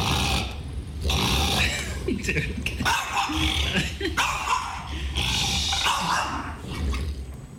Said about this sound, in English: That's a French bulldog. Is that right? Yeah. That's a wild growl. Not reacting well to the attempt to remove the toy from in front of the dog.